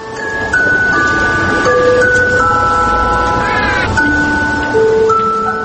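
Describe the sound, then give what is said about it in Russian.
A bell struck every hour by the angel figure on a clock tower in the old town of Tbilisi chimes a steady tune of ringing, sustained notes that step from pitch to pitch over a low background rumble. No one speaks. “Ангел башни хранит ее и нас каждый час, стуча в свой колокол и молчаливо возвещая о времени.”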